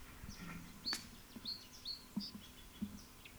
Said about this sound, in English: Song Sparrow, number one.